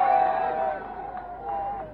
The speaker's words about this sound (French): Il propose aux Mexicains de s'allier à la France, et il termine son discours par le fameux « Marchons, mano en la mano », la main dans la main, sous les applaudissements de la foule.